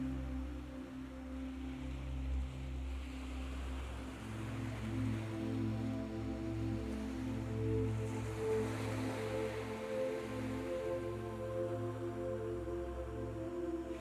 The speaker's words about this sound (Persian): موجای کف‌آلود دریا پاهاتون رو گرم میکنه. آب دریا آروم آروم بالا میاد